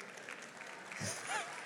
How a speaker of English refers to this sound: Those are all the CNN people clapping right now. But I want you to hear the sound.